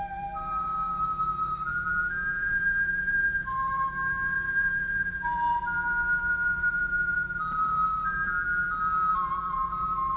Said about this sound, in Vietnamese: Phật bắt đầu thổi sáo.